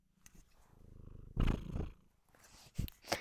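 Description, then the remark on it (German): A cat purrs, a low, steady rumble that swells louder midway through, fades a little, then ends with a few brief, sharper bursts. “Tja, lassen wir das mit der Katze.”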